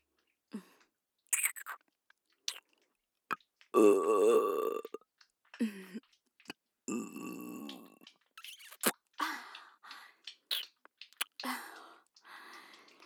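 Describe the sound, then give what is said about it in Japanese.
A drawn-out burp rumbles out, with a second shorter belch soon after, surrounded by quiet breathy mouth noises and soft clicks. “生キスゲップ効きすぎちゃうね。こんな風に。”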